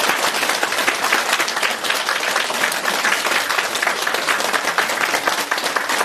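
A large audience breaks into sustained, enthusiastic applause to welcome Lu Junhong (Master Lu), a dense steady wash of many hands clapping at an even loudness for the whole six seconds, with no voices standing out.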